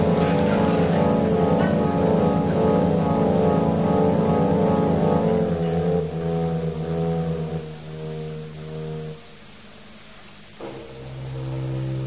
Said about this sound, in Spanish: Caramba, metí el auto en el pantano y me olvidé de salir.